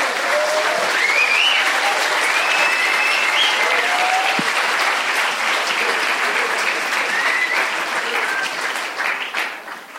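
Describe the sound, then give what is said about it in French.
Sustained audience applause thanking the teenagers who took part and their parents, a dense, steady wash of many hands clapping at full strength for nearly ten seconds, thinning slightly at the very end, with a few faint voices mixed in. “et tous les parents qui avaient mis leurs adolescents, vous pouvez applaudir encore plus.”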